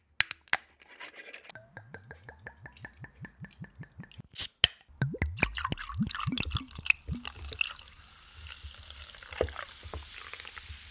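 A few sharp clicks as a tonic bottle opens, then rhythmic glugging as liquid pours, and a steady fizzing hiss of tonic pouring into a glass of gin and tonic with rising splashy tones. No one speaks.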